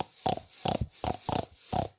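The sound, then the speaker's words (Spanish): A person imitates a pig's oinking with five short, nasal grunts in a steady rhythm, moderately loud, with no other talking. “Que el cerdo cuando llegó a su barriga, igual que había hecho la gallina, empezó a hacer su ruido. El ruido que hacen los cerdos, que es el...”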